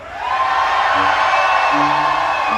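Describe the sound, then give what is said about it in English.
An audience cheers loudly and steadily in answer to whether they would fly anyway despite a premonition of dying in a plane crash, a dense roar of many voices that holds at full strength for the whole couple of seconds, with a few higher shouts poking through. “If you were in my position, cheer if you would fly anyway.”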